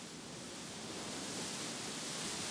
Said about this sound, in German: Als es langsam dunkel wurde, wurde es auch windig. Die Orangen fallen runter und man hört die Blätter rascheln.